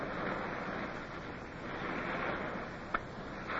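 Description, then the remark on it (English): A steady, broad roar of surf washing onto a tropic island beach at Scotchman's Bay, with swells rolling in continuously and one brief knock near the end. No voices are heard. “The land breeze caught us, and then we heard the swell of the surf.”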